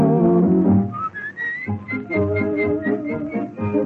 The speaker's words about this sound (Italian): Fa il campanello mentre fischio un ritornello che accompagna i nostri cuori. Mentre fischio un ritornello che accompagna i nostri